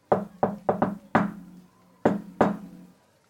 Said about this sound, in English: and you make it to the entrance to their house. I do my patented cool guy knock on the door.